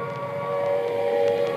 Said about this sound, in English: This is Trafalgar Square. The noise that you hear at the moment is the sound of the air raid sirens. I'm standing here just on the steps of St. Martin's in the Fields.